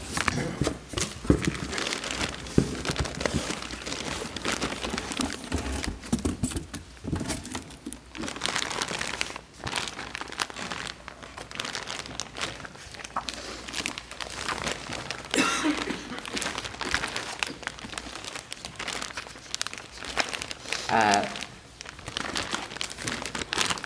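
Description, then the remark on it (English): Continuous plastic crinkling and crackling as evidence package 418 is handled and opened in court for the jury, with brief tearing rustles and irregular bursts of crunching that stay fairly steady throughout, with no talking. “Okay, please open 418 and tell the jury what it is.”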